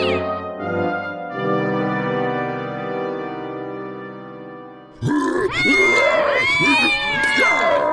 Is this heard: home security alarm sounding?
no